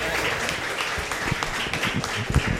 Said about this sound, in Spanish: Yo quiero que lo recibamos con un merecido aplauso porque él va a continuar la conversación